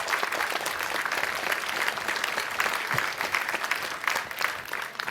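An audience applauds to welcome a speaker at a talk, clapping steadily for about five seconds, a dense, even wash of many hands at a fairly loud, constant level with no voices standing out.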